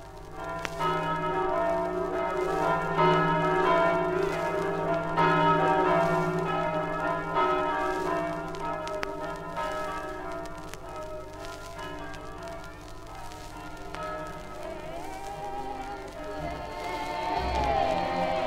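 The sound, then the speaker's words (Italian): Church bells peal continuously, layered and ringing steadily for the whole stretch, welcoming a religious procession returning to the harbour, with a low murmur of a crowd beneath and a faint swell of voices near the end. “Mistico suggello, le campane che da tempo immemorabile accolgono la processione che rientra nel porto.”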